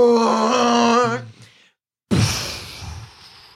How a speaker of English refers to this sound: Easily and deftly, you roll back into temperance as the worm blasts past. When it misses you, it immediately rears backwards and roars.